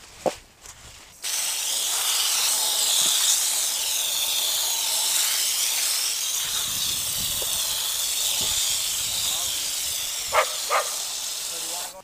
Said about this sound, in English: I think I'll run the hose over these one more time. Maybe we'll just flip them all over because we didn't get the underside.